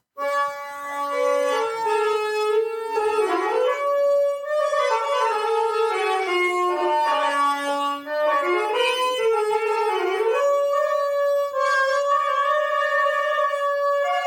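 A loud, steady stretch of a song with unusual, weird guitar playing by a New York jazz scene improviser: bending, sliding notes over a bright, buzzy tone for the whole clip, with no voices.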